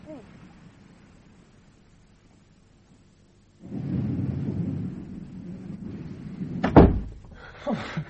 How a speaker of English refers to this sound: Well, it looks as though there's going to be quite a shower.